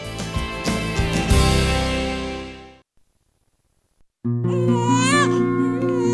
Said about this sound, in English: The first cries of a newborn baby signal the miracle of life.